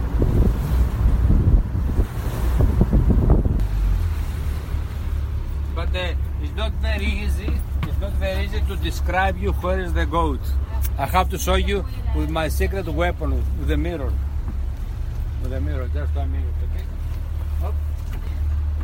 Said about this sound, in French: Alors, on ralentit le bateau pour multiplier nos chances de voir un cri-cri.